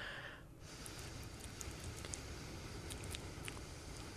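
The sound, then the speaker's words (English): A person imitates rain with the mouth, a steady crackling patter of wet mouth clicks and hissy noise layered from two sounds, sustained evenly for several seconds with no speech. “When I started doing rain, the sound of rain, I didn't even know I could make that sound. But it's a layered sound effect.”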